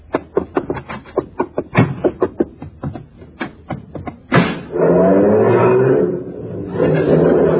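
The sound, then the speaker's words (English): A car engine, driven over from next door, sputters in a rapid run of sharp, popping bursts, then swells into a loud, steady roar as it pulls up. No one speaks. “Hey, how come you drove your car over here?”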